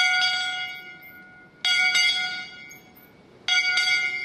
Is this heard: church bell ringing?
yes